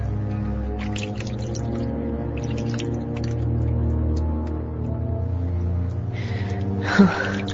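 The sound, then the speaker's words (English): Water runs steadily into a tub with small drips and sloshes, then a sudden splash as someone steps into the cold bath, followed by a sharp gasp. “I am no longer afraid, and soon this hard white sea is filled, and I step in.”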